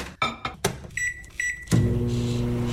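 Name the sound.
microwave oven running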